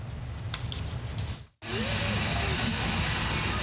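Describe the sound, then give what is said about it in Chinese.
A coal-fired steam locomotive on a railway in the United States hisses loudly and steadily, the rushing sound cutting out for a moment before resuming just as strong, with a faint whistle-like tone drifting underneath. “从19世纪30年代开始，燃煤火车在美国的铁路上运行了175年，是美国向西扩张和工业革命不可或缺的一部分。”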